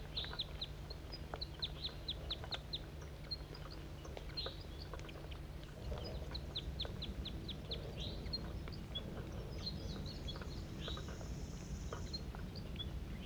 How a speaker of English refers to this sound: Wild bird.